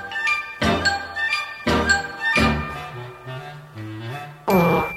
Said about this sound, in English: It's Christmas. It's sleigh bells. It's reindeer.